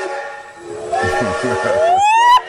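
A loud, sustained steam train whistle blares with a rich, reedy tone, its pitch bending upward near the end over a hissing, chuffing rumble.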